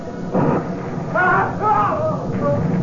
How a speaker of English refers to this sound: The sea got kind of choppy that night, and I was sure restless. Wind started acting up, began to rain. Looked like a storm was building.